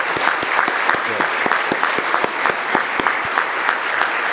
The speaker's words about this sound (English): Let's give a round of applause to the choir and the cantata and all the in the drama. Let's give them a round of applause.